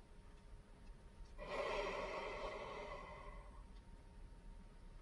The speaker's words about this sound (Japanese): 長く深いため息のような吐息。荷台の何かは振り返らせようとしている。